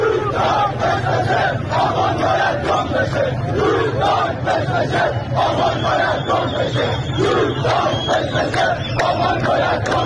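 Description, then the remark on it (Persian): A large protest crowd in Dezful chants slogans in unison, voices rising and falling in a steady rhythmic cadence, loud and dense throughout with a constant roar of many people underneath. “اینم گوش بدین، بازم مربوط به اعتراضات دسفوله.”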